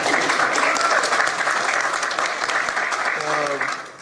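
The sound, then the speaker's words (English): A crowd applauds the news that a patient was cured of cancer by surgery, with steady, dense, continuous clapping across the room, fairly loud and sustained, then a voice begins speaking near the end as the clapping thins. “You can clap. It's okay.”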